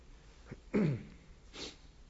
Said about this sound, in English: Felt a sneeze coming on.